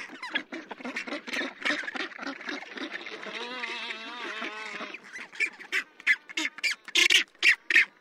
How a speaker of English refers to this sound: It's the black-browed albatross that's laughing, and the high-pitched squawking comes from rockhopper penguins. Both of these species are awkward and ungainly on land, but masters of the wild waves that surround them.